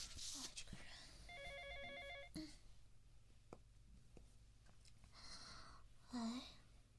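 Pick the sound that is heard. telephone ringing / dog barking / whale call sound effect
telephone ringing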